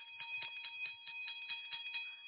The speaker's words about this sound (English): Hallelujah. Do you hear that? That bell is just for you, those who received Jesus for the first time, and those who rededicated their lives.